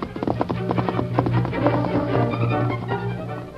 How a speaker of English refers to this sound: Sam heard the hoofbeats of an approaching horse and thought it might be the Lone Ranger returning from town.